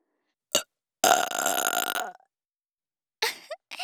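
A single long, loud, close-up burp lasting about a second, preceded by a quick breath and followed by short vocal sounds after a pause.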